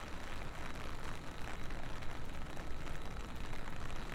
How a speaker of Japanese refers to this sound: このジメジメさえなければ、雨の音は嫌いじゃないんだけどね。